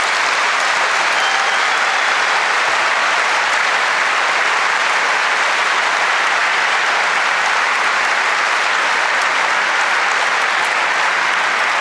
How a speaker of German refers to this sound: Dafür bitte ich nochmal einen großen Applaus.